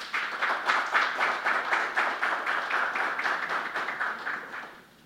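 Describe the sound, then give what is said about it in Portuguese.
A round of applause from many hands for an honoree, a former football player and sportsman. It is steady and fairly loud, with dense crackling claps that hold for several seconds before fading out near the end. No voices are heard over it. “Atualmente desenvolve voluntariamente importantes serviços à diretoria do Araguari Atlético Clube no estádio Vasconcelos Montes, a quem eu peço uma salva de palmas.”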